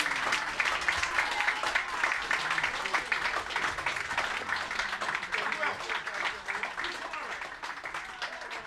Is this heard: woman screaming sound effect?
no